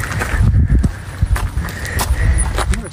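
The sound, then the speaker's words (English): Horses, with an irregular scatter of hollow hoof knocks and shuffling over a low outdoor rumble, moderately loud, with no talking. “There's some horses. There's horses.”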